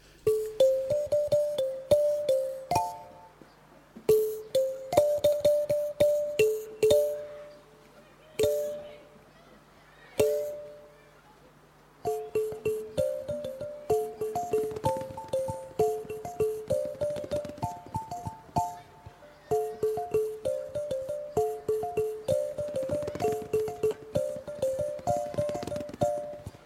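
A French children's song about a carousel horse plays, a simple bouncy melody over light clip-clop percussion, with a brief pause before the tune picks up again and continues steadily.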